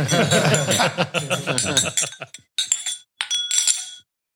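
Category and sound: household object, glasses clinking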